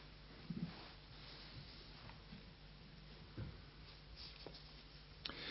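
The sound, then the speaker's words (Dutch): Soft, scattered paper rustles as pages of a Bible are leafed through toward page 991 and Ezekiel chapter 8, a few brief crinkles spread across a quiet stretch with no talking. “Moet eens even bladeren, bladzijde 991.”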